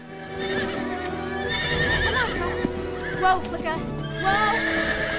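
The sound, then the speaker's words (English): Several horses whinny and neigh loudly over a steady rumble of hoofbeats as a herd gallops out through an opened corral gate, following the mustang Flicker, for a few seconds. “Flicker gallops out, the herd of horses following alongside.”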